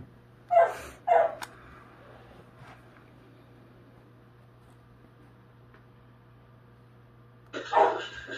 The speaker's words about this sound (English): Stupid dogs.